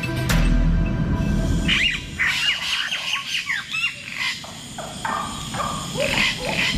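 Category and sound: bird, birds trilling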